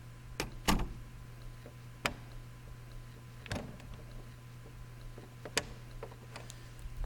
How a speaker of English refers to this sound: Lock the door.